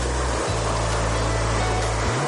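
Steady, hissing wash of beach waves rolling in continuously, with a low droning hum running beneath the surf for most of the stretch.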